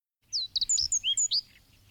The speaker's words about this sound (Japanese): どこかで鳥が楽しそうに歌い始めた。